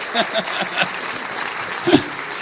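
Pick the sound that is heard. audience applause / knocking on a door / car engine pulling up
audience applause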